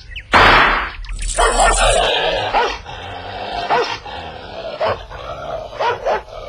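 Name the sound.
dog barking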